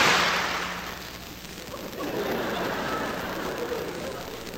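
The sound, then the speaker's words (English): An audience claps together on a count of three, a dense, crackling burst of applause that starts strong, dips slightly, then carries on steadily to the end with no voices standing out. “And when you start doing all of that clapping, it's like firecrackers going off.”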